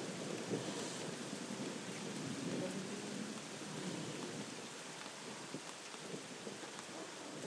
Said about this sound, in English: Hey, this will be one to remember your 70th birthday, won't it? The thunderstorm you had.